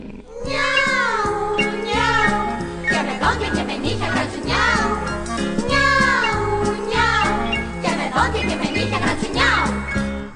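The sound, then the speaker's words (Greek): Voices imitate cat meows in a song, with repeated drawn-out, gliding meow-like cries sung loudly over a steady instrumental backing. “νιάρ, νιάρ. Το γλυκύτερο το νιάρ σας το λένε οι …”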